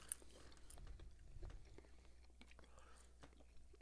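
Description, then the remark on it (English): Quiet chewing of tough, slightly spicy kangaroo jerky: irregular moist clicks and soft squelches over about four seconds, with faint low murmurs of movement underneath and no clear speech. “Still chewing.”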